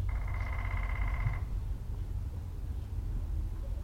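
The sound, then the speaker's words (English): A woodpecker gives a single rapid, buzzy rattle lasting just over a second, fairly bright in pitch, then fades out, leaving a steady low rumbling background noise. “Maybe you can hear the lovely woodpecker.”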